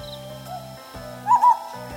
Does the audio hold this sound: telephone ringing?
no